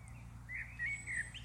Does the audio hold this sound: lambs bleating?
no